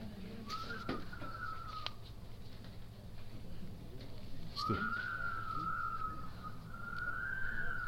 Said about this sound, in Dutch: De ruach hoor je buiten, hè? De wind, ja.